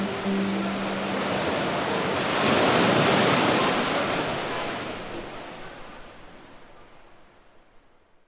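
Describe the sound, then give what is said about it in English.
Pacific Ocean waves in the Sunny Jim Cave, a sea cave, wash in with a full, roaring surge that swells to a peak, then slowly recedes and fades into a soft hiss. No voices are heard. “Today, we're going down that long set of wooden stairs to see a spectacular hidden view of the Pacific Ocean and a sea cave with a mysterious and colorful past.”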